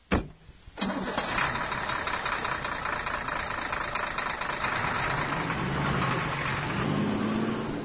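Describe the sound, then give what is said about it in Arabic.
The engine of a strange, unusual car cranks briefly, then catches and roars to life, settling into a loud, steady rumbling idle with a slightly rough, knocking texture. There is no talking. “دعنا نتمتع بهذه السيارة الغريبة العجيبة التي لم أشاهد مثلها في حياتي.”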